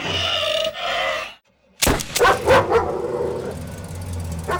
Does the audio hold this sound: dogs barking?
yes